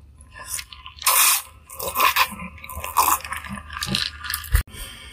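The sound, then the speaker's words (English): Sipping of a Slurpee frozen slush drink through a straw: several loud, crunchy, gurgling slurps of icy liquid over about five seconds, ending with a brief sharp click. No one speaks. “Hold on, I gotta get a sip of my Slurpee.”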